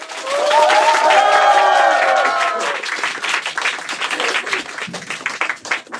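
A crowd applauds with loud whoops and cheers over the opening seconds, then the cheering drops away and steady, scattered clapping carries on, thinning toward the end.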